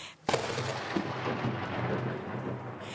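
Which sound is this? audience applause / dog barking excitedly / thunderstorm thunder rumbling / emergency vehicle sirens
thunderstorm thunder rumbling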